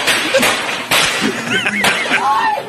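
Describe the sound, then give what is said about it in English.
Firecrackers are shot at a man, popping in a few sharp, loud bursts spaced irregularly over a couple of seconds, with bright wavering cries or shouts rising between the bangs. “Are they shooting him? Yes. Firecrackers.”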